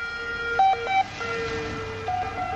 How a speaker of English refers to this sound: Well, I've now walked up the hill to near the top of the old town, and a continuous stream of emergency vehicles are flying past on the road.